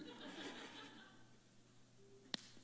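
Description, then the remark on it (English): A single sharp slap to a man's face cracks out near the end, brief and crisp, over a faint murmur of background chatter and light laughter. “Slap him in the face.”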